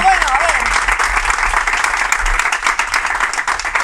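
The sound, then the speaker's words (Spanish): An audience claps steadily for Spain's Minister of Youth and Children, Sira Rego, a dense, loud patter of many hands with a faint whistle near the start. “Pero bueno, si es la ministra de Juventud e Infancia, Sira Rego, por favor, un aplauso.”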